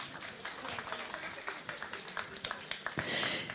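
An audience applauds, many hands clapping in a dense, steady patter with sharper individual claps poking through, faint murmuring beneath, and a brighter hissy swell in the final half-second.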